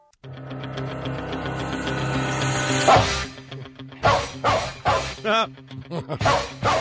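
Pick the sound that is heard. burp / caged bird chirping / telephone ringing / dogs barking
dogs barking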